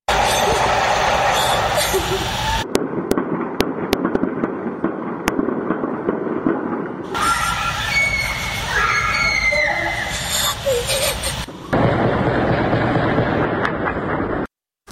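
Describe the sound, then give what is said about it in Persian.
Sharp, scattered bursts of gunfire crack across the streets of Mahabad, West Azerbaijan province, Iran, heard from different parts of the city as security forces and special units with war weapons and armored vehicles enter, a handful of loud shots ringing out amid a noisy background of voices and commotion. “بر اساس ویدیوها و گزارش‌ها از شهر کردنشین مهاباد در استان آذربایجان غربی، نیروهای امنیتی و یگان ویژه با سلاح جنگی و با پشتیبانی خودروهای زرهی وارد مهاباد شدند و صدای تیراندازی از مناطق مختلف شهر به گوش می رسد.”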